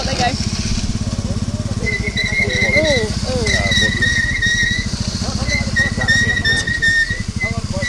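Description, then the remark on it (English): A bus's heavy engine revs hard and steadily, droning loudly throughout with a high whine rising and falling, as its wheels churn and spin in mud while it tries to get unstuck; voices murmur faintly in the background. “more purchase on the ground to move the bus, and it's all happening”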